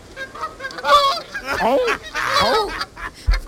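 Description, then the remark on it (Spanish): A duck quacks in a short series of harsh, nasal calls, three or four bursts in a row, clear, with no voices over them. “Es un pato.”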